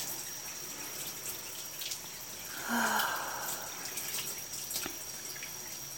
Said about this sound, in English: This is how I want to spend a cold day with you. The two of us here together in the shower.